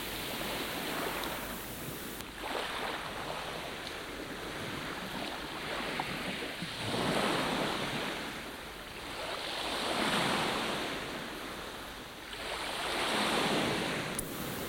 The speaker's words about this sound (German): Ich höre das Meer, sein ruhiges Gleichmäßiges.